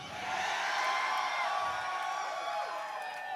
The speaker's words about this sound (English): I hear a lot of yellers, but I don't hear a lot of believers. You yell now and later you snicker in your coffee.